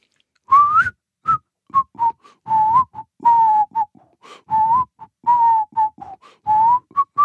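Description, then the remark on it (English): A person whistles the bridge of a song, a bright wavering tune of short and held notes with brief breathy pauses between phrases, no talking alongside. “I can actually whistle the whole song, but I whistle the bridge.”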